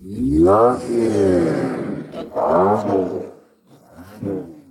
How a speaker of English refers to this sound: They've been de-wrapped, cleaned up, and for those that might be upset that the exhausts are back to stock, with each car, we'll throw in the straight-piped option just in case the new owners may want to hear those V12 scream.